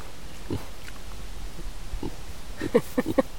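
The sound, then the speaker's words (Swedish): A small black mini pig walking loose in a garden grunts, a few short scattered grunts at first, then a quicker run of snuffly grunts near the end, over a steady outdoor background hiss. “Här kommer en liten gris promenerande i trädgården. Ja, det är belladonna. En minigris som går lös här.”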